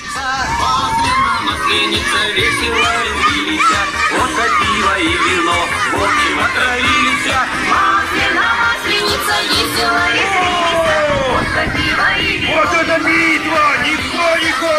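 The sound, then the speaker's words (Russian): A loud, dense crowd of children shouting and yelling continuously at a kindergarten Maslenitsa celebration while an entertainer runs a contest, with a song playing underneath the noisy hubbub throughout. “На кадрах аниматор проводит конкурс, вокруг много детей, а на фоне звучит песня, ну, так, мягко говоря, не совсем подходящая для такого мероприятия.”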